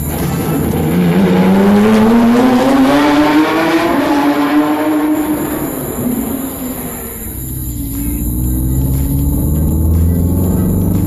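A car engine revs up with a rising whine and pulls away, its loud drone easing off midway before a low rumble carries on. No one speaks.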